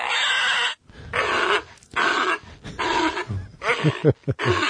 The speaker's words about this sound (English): It's lives in the ocean. That's a sea lion. I think he was a little sick.